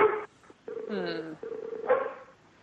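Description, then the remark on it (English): A dog barks and yelps in a few short, tonal bursts, moderately loud, with a longer whining yelp in the middle and brief pauses between. “Oh, there's a dog.”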